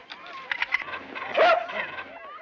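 A dog barks in a quick run of short, sharp bursts, then lets out a louder, drawn-out bark midway before trailing off into softer, whiny yips.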